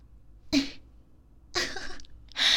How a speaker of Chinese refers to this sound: 竟然咳嗽了。是觉得痛苦吗？